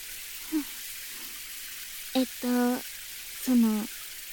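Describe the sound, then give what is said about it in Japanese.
Shower water sprays in a steady hiss throughout, playfully sprayed onto a person's face, while a voice makes a few short wordless sounds over it near the end. “もうちょっとふざけて顔にシャワーかけただけじゃん。”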